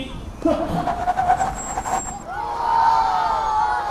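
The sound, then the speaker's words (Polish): Vehicles speed up with a rising engine whine, then brakes squeal in drawn-out, high tonal screeches, fairly loud, with a steady traffic rumble underneath. “Rozpędzą się samochody, będą musiały zahamować i”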